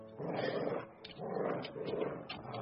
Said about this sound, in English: That's Josh, that's your dog! That's Josh!